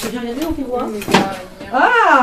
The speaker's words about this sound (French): Ok, alors ça c'est quoi ? Non. Et ça s'ouvre. Il y a un tiroir.